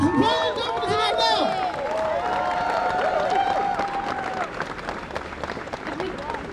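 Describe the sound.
An audience applauds steadily, dense clapping mixed with cheers and whooping voices, holding at an even, fairly loud level from start to finish.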